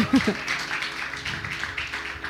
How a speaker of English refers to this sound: Let's clap hands